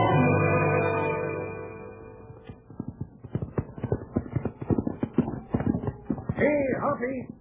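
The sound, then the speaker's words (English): Horse hooves clip-clop in a quick, steady rhythm, following a sustained tonal sound at the start, with a brief warbling call rising over the hoofbeats near the end. “I'll get the horses right now.”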